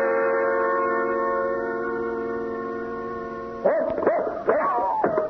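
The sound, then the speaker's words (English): A steady sustained tone hums for several seconds, then a dog named Jeff barks three or four times in quick succession, loud, with no one talking. “My dog, he jumped through the window and ran off.”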